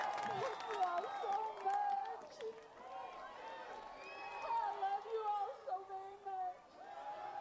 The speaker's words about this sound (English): From jail, cheered by a crowd of supporters.